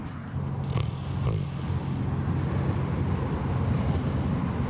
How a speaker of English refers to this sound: I think I've just found a snoring pig.